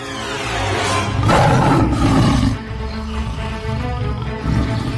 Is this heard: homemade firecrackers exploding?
no